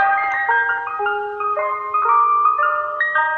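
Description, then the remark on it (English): A tinkly, music-box style ice cream truck jingle, as played by ice cream trucks in New York, plays a bright repeating melody, steady and fairly loud, with no voices over it. “In England, it's apparently green sleeves on the ice cream trucks, which has got to be better than what we hear in New York, which is this.”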